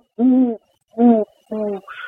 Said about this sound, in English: Something like a great horned owl, for example, that most people in Montana are familiar with, they tend to be resident species year-round, so we always hear them hooting in the distance. Everybody knows the great horned owl hooting.